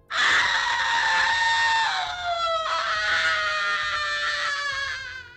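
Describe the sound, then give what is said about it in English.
A woman lets out a long, loud, sustained scream that holds steady, then drops slightly in pitch and continues for several seconds before trailing off. “She peered at the still waters and screamed.”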